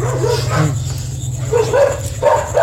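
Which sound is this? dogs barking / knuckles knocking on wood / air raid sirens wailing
dogs barking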